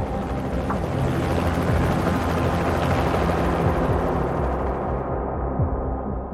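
A helicopter's heavy, throbbing rotor roar fills the scene as it lifts off and flies to a space capsule that has splashed down in the sea, lowering a neon-orange net; loud and steady throughout, with low engine drone; no one speaks.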